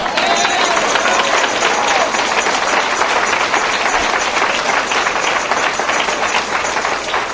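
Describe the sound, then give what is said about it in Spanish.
A crowd claps steadily for several seconds, a dense, even wash of many hands with no break in the rhythm, fairly loud throughout. “He sanado tus manos para que des un aplauso a mi gloria.”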